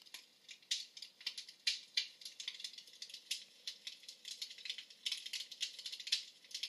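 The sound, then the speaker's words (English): A crackling fireplace, a classic Yule log fireplace video, playing from a television on Pluto TV: dense, irregular pops and snaps with bright, crisp tops over a soft steady hiss, fairly quiet, with no voices. “Crackling Fireplace. What it is a classic Yule log fireplace. Do you hear it in the background?”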